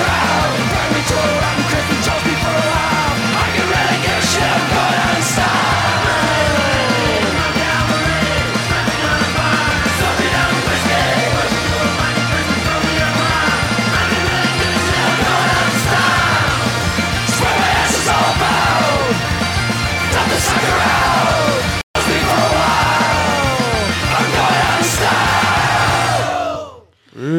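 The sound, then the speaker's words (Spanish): Loud, dense music from an Irish band, with several voices shouting and bawling the vocals over a steady pounding beat, continuing nonstop before a brief dropout and a fade at the end. “Como gritan estos, copón. Estos irlandeses están todo el día berreando.”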